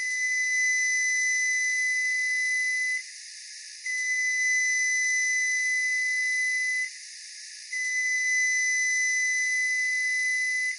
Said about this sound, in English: When the sound is meant to tell you something, it's called an intentional sound. Here are the three long beeps of a newer model Frigidaire microwave.